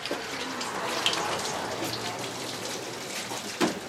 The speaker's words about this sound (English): El Comedor, a tiny dining hall run by various churches, where women are washing dishes before serving a free breakfast to a crowd waiting outside.